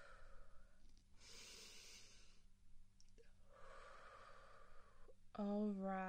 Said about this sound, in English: And put your hands together, yes, just like that. Like you're praying, and breathe in, and breathe out. Just be calm and collected. Nice, yes. Just breathe like mommy's breathing.